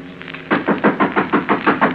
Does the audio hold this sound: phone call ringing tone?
no